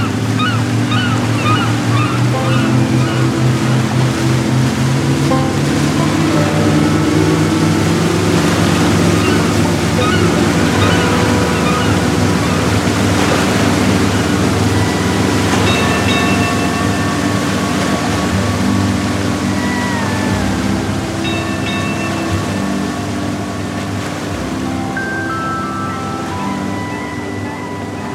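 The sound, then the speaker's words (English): A ship's engine drones steadily as it goes full steam ahead across the sea to help another ship park in the dock, beneath loud, continuous churning of ocean waves, with low humming tones that shift slightly in pitch over the rushing water. “Let's get on the sea and help that ship over there park itself in the dock. Full steam ahead.”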